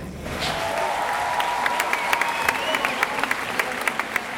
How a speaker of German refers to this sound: Für diese Worte hätte es vor ein paar Jahren in Uruguay wahrscheinlich noch keinen derart tosenden Beifall gegeben.